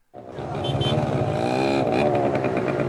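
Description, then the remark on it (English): Motorcycle engines rev and drone amid the steady roar of busy traffic at a traffic circle in Damascus, Syria, with faint voices mixed into the dense street noise. “This busy traffic circle in Damascus has become a central gathering place to celebrate the new Syria.”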